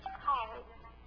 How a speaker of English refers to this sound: That's never happened ever before in my life. Somebody trying to call me while I was preaching.